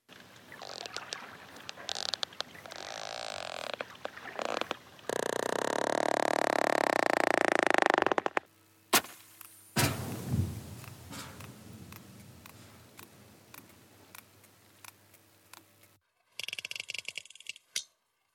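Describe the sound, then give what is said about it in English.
Sperm whale coda clicks: sharp, dry clicks arriving in short irregular bursts and sparse single ticks, with a stretch of loud rushing, hissing underwater noise in between. “These are the sounds of the mighty sperm whale, a fellow mammal that can dive almost a mile, hold its breath for more than an hour, and lives in these amazingly complex matriarchal societies.”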